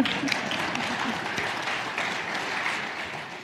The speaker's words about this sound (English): They threw in the towel. And our victory not only... Yeah, we can clap.